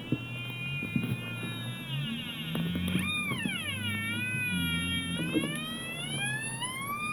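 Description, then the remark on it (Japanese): A steady low-frequency electrical hum, picked up as the recorder is brought toward an AC power outlet, drones throughout, overlaid by bright, wavering whistle-like tones that sweep up and down like a siren. There is no speech. “今から AC 電源のコンセントに近づけています。低周波音を取ります。”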